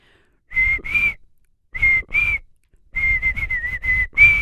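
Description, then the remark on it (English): Someone whistles a pop song melody in short phrases with brief pauses, ending on a run of quick notes and a higher held tone. “It's where one of us whistles and the other one has to guess what the song is.”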